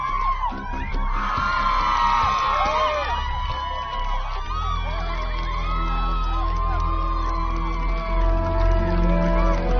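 A large crowd cheers loudly and continuously for a man stepping out of a car, with whoops, shouts and high-pitched yells rising over a steady roar of voices and a low rumble underneath.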